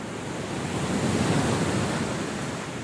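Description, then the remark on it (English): Steady roar of ocean surf mixed with wind in the Mona Passage, the 60-mile stretch of ocean between Hispaniola and Puerto Rico, a broad rushing wash that swells slightly in the middle and then eases, with no voices. “The other border is a 60-mile stretch of ocean between the island of Hispaniola, shared by the Dominican Republic and Haiti, and the U.S.”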